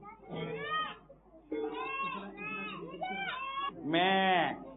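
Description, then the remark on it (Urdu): A child's voice imitates a goat, giving several wavering, nasal bleats in a row, ending with a louder, drawn-out bleat; fairly loud, with no other talking. “میں تو بکری کرتی ہے.”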